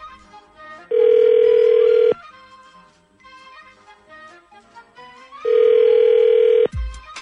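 A telephone ringback tone sounds twice as the Z Morning Zoo radio show on Z104 calls a woman's phone number, each a loud, steady buzzing ring about a second long with a few seconds' pause between, while soft music plays underneath.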